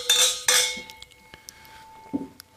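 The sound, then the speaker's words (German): Glasses clink together twice in quick succession during a toast, bright, leaving a clear ringing tone that lingers, followed by a few softer taps and knocks. “jetzt sitzen wir da mit euch, gibt's nichts Schöneres. Prost darauf. Cheers. Cheers, zum Wohl.”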